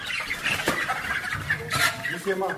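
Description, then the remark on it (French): A crowd of broiler chickens raised by students of the Carmel agricultural school in Bimbo cluck and chatter continuously, a dense overlapping flock noise with a few sharper squawks, and faint human voices mixed in underneath. “Les visiteurs doivent manipuler avec douceur les poulets.”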